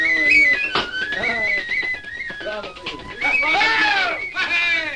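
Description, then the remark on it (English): A lively tin whistle tune plays bright, with quick ornamented runs of high notes and a steady dance rhythm over faint background noise, played by two men who are dancing in their kitchen in Ireland. “like these two gentlemen playing a tin whistle and dancing in their kitchen in Ireland.”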